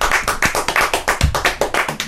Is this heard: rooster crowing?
no